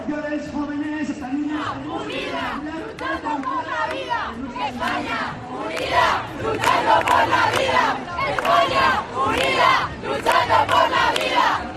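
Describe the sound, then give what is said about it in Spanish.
A large crowd at a pro-life protest march under the slogan "Sí a la vida" in Madrid, Spain, chants in loud, rhythmic unison, repeating shouted phrases in steady bursts over a continuous wash of voices that swells louder in the second half. “Y desde antes de arrancar esta fiesta por la vida ya había miles de personas cantando y bailando.”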